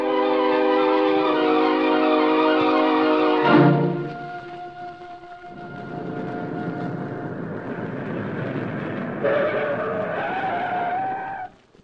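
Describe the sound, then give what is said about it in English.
A car drives by with a loud, whining engine and squealing tires, then a rough rumbling as it slows, with a final tonal screech as it stops in front of a home. No one speaks. “Meantime, a car stopped in front of Barlow Murray's home.”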